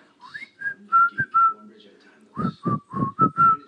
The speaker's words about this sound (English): there are a lot of songs out with whistling in them right now, and one in particular is …, and he has the whistle song